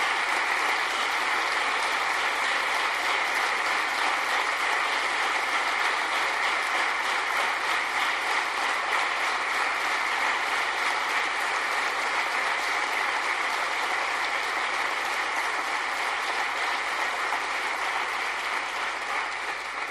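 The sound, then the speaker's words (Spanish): A large audience at a pregón (proclamation speech) applauds in a dense, steady wash of clapping, dedicated to those who have passed away, holding at an even, loud level for the whole stretch, without any voices. “Por todos y por cada uno de ellos, os voy a pedir el mejor y el más sincero de los aplausos de este pregón para que llegue hasta donde ya ellos se encuentran.”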